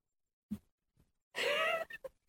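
A single loud yawn: a breathy, drawn-out voiced sigh lasting about half a second with a gliding pitch, followed by a few short breathy puffs. A soft knock comes just before.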